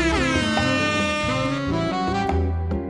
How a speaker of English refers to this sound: And heading into the break, you can enjoy this chillax version of the air horn.